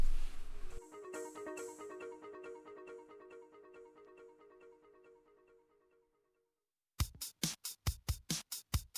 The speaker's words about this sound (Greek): αφού κάνουμε ένα πολύ σύντομο μουσικό διάλειμμα. Πάμε.